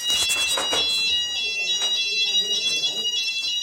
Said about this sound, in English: Right, it's Monday, the 7th of November, 2011. It's 6:05 in the evening, and the fire alarm has gone off again. It's the second time in 2 days.